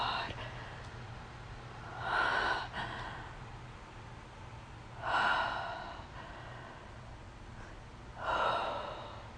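Three short, breathy sniffles at roughly three-second intervals, moderately loud over a faint steady background hum, with no talking.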